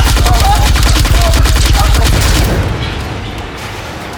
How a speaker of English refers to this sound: You've annoyed the giant killer robot. Engaging primary cannon.